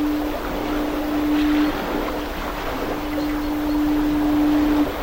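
Two long, steady foghorn blasts, each lasting over a second, sound over a constant wash of wind and surf, with a short gap between them.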